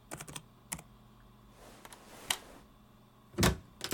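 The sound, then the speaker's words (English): A door being unlocked and opened: a quick series of sharp metallic clicks and rattles from the lock, then a louder latch clunk near the end, with no voices. “Dude, come on, unlock your door.”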